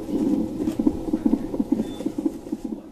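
A fetal heartbeat plays through a monitor, from a child operated on its open back inside the womb: rapid, steady, low-pitched whooshing pulses, a little over two per second, with a soft hiss behind them and no voices.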